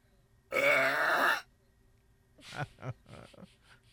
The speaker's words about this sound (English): The reason why is we just reclaimed the title for the world's loudest burp by a woman. Here's what it sounds like.